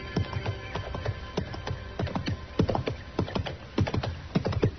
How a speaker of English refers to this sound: And just then I heard a horse coming along the trail and I stepped back and waited. Whoever it was had passed within a few feet of me.